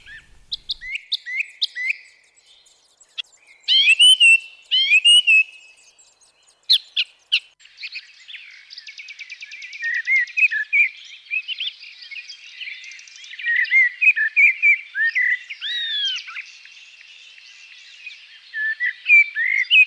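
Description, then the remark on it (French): Several birds chirp and sing outdoors among trees near the church of Brou, starting with sharp scattered calls, then a dense, continuous chorus of quick trills and twitters, clear with no voices. “à proximité de la prestigieuse église de Brou, entourée d'arbres et d'oiseaux.”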